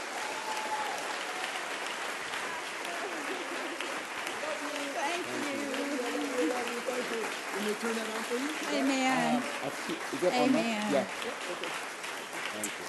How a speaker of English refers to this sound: So, without further ado, all I can say is get up on your feet, Church on the North Coast. Clap your hands.